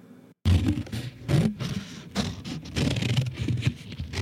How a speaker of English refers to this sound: That's a lovely sound, isn't it? Heavy paper being cut with sharp scissors. It reminds me of grade school teachers.